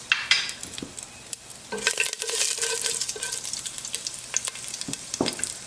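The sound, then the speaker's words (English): Mustard seeds crackle and pop in about a tablespoon of hot olive oil, a dense stream of sharp, irregular snaps over a steady sizzling hiss, with a brief scrape of stirring partway through, before curry leaves are added. No one speaks. “Once our mustard seed starts crackling, we'll go ahead and add our curry leaves in there.”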